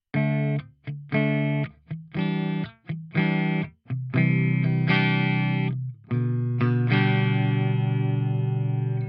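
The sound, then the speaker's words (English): Clean Yamaha electric guitar plugged into a Motu M2 interface and played through a Roland Jazz Chorus 120 amp model in the Neural Amp Modeler plugin: four short, choppy chord stabs, then longer ringing chords that sustain to the end, loud, with no voices. “And this is loaded up in the NAMM plugin with a Roland Jazz Chorus 120.”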